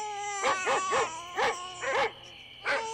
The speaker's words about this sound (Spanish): ¡Mujer! ¡El niño está llorando! ¡Ay, voy a verlo! A eso de las 12 de la noche, escucharon al bebé llorando.